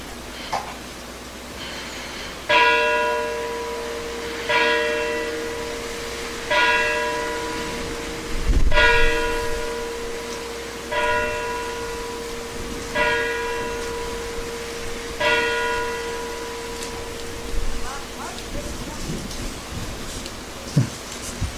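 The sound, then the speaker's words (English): A single bell is rung for a moment of silence during a church worship service, tolling steadily about every two seconds, seven strikes, each ringing out and overlapping into a sustained hum, over a soft background hiss like light rain. No one speaks. “we're going to have a moment of silence while our friend Logan sounds the bell”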